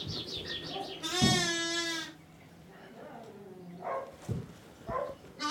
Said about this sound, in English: Look at all these baby sheep.